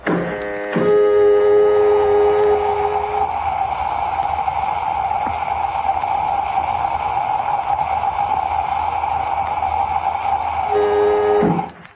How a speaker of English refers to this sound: We're in the airlock now, Doc. If Rogers is in the cabin, he should hear us operating it. Well, if he does, he gives no indication of the fact. Lemmy's calling him constantly, but gets no reply. Filling airlock.